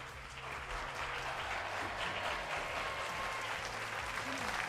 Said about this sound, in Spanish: Venga, por ello, sí señor, le damos un aplauso.